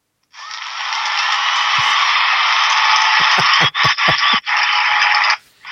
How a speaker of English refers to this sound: 300 episodes and the crowd's going wild.